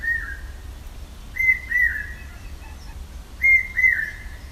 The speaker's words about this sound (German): Und im Hintergrund immer wieder zu hören der hier heimische Falkenkuckuck mit seinem markanten Ruf, dessen Töne, wenn man genau hinhört, immer lauter und immer höher werden.